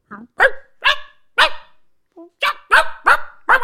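A dog barks loudly, about eight sharp barks in quick, uneven bursts, with a short gap and a faint low yip in the middle.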